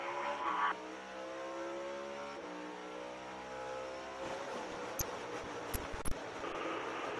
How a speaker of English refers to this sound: But I want to go on board and hear Ross Chastain's in-car camera and then also some driver reaction in-car immediately when it happened. Take a listen.